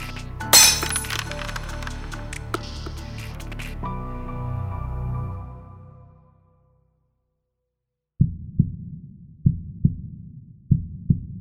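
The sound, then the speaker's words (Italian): A loud crash of a vase shattering on the floor, with bright clinking fragments ringing and fading out over several seconds. After a short silence, a series of scattered, irregular ticks and small taps follows as necklace beads scatter everywhere. “Il vaso è a terra, frantumato. I fiori sono calpestati. Le perline della mia collana sono ovunque.”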